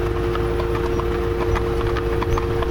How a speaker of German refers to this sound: Pünktlich zum 10 Uhr läuten sind wir an einer Dorfkirche vorbeigekommen. Das klang schon gut, Pferdetrappe und große Glocken.